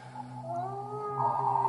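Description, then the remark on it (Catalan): A wolf beside the Danube howls in one long, sustained, wavering cry that bends slightly in pitch and swells louder toward the end, with no other sounds around it. “Allà al costat del Danubi, no sé per què, però hi havia un llop.”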